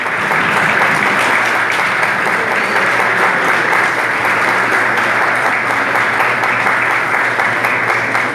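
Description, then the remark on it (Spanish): Loud, sustained applause from a large crowd for pilgrims in Panama, at the presentation of the official national team jersey bearing the World Youth Day logo, a dense wash of many hands clapping steadily for the full length with no pauses. “Fuerte el aplauso para nuestros hermanos Peregrinos Panamá.”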